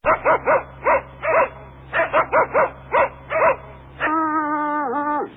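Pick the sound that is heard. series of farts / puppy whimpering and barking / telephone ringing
puppy whimpering and barking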